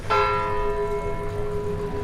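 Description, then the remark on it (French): A single church bell, hung high overhead, strikes clearly, its bright overtones humming and slowly fading over a low ambient rumble, with no voices. “Oh, quelle chose magnifique que le son clair et émouvant d'une cloche qui, très haut, au-dessus de nos têtes, nous parle à tous, du sein de la nuée, comme une puissante voix venue du ciel.”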